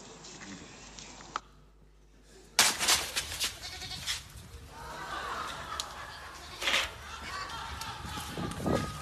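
A goat bleats, a few loud, rough cries following a short quiet gap, with rustling and background noise between the calls.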